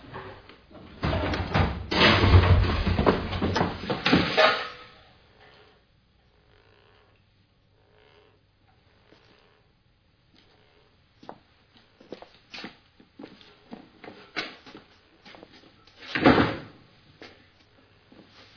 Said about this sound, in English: You've been banging on your pots again, haven't you? Told you. If you keep on doing it, you won't have any pots left.